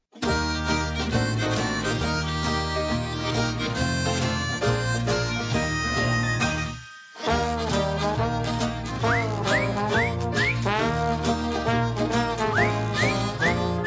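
Lively jug band music plays loud and close, breaking off for a brief pause halfway through before resuming with sliding, whistle-like notes over the busy rhythm.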